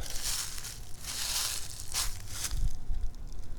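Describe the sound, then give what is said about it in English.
Heavy footsteps crunch and rustle through dry, leafy forest undergrowth while someone searches for mushrooms, about five steps at a slow, steady pace, each one a loud crackling burst of leaves and twigs, with no voices. “I'm looking around as I go stomping through here, letting all the animals know, here I come.”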